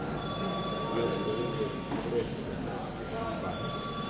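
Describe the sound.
A steady electric bell rings continuously with a bright, sustained metallic tone in the Latvian Saeima chamber. It is rung before deputies vote on sending a bill to committee, heard over a low background murmur of voices and room noise.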